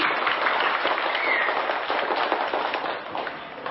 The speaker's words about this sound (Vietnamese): Chúng ta xin được cung đón thượng tọa một tràng pháo tay thật là lớn.